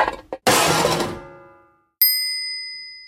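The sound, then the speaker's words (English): A kicked can strikes a window: two quick taps, then a loud metallic clang that rings and slowly fades, followed by a bright, glassy ding that hums on. “The can hits the window.”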